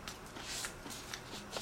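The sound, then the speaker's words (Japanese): Someone crunches through a crisp cracker, about 3 cm square, topped with prune jam, a series of dry, crackly bites and chewing bursts in an irregular rhythm, fairly soft, with no talking. “バリバリ噛む気持ちがいいさと、うわー美味しいね。”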